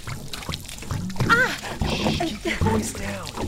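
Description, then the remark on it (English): Cold water is poured from two bottles over someone's hair, with no running water, a steady splashing trickle lasting a few seconds, with brief vocal sounds mixed in. “There are two bottles over there. Enough for two. Now it's going to be a little cold. Just pour”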